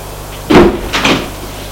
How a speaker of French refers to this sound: Ferme la porte et fait entrer Monsieur de Janju.